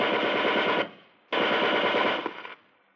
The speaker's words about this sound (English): Now we'll give him a taste of his own medicine. Put a round of machine gun bullets through the roof of the garage.